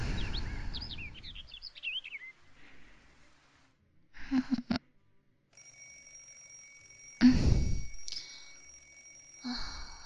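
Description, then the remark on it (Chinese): A high, steady electronic alarm tone from an alarm clock left on from the night before starts partway through and rings continuously, with soft sighs and rustling and a few faint chirps at the start. “钟响了，昨天忘了关闹钟了，”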